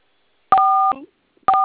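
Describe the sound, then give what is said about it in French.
Telephone keypad tones: two clear dual-pitch beeps, each about half a second long, separated by a short pause with a faint clunk after the first, fairly loud, as someone presses keys on a phone during a call. “Vous manipulez vous avez... le téléphone en même temps.”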